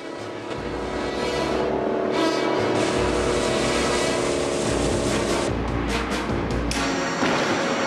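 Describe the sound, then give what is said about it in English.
Loud, continuous engine roar of cars speeding along a beach in a pursuit, driving through shallow seawater, with rushing splashes and surf-like noise mixed in, steady throughout. “then jumps over a dried-up tree trunk that's lying across the beach, but his pursuers manage to avoid it.”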